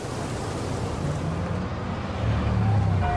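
A bus drives over a bridge in a marginal area of a city, with a steady engine rumble and broad road noise, holding even throughout and swelling slightly louder toward the end.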